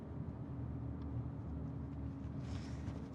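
Steady low road and engine rumble from inside a moving car carrying a passenger in the front and another in the back, a continuous drone with faint higher hiss drifting over it and no voices.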